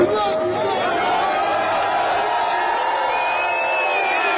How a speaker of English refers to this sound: Listen to that crowd just going crazy in New York. Yeah, that's a big deal when you start getting New York behind you.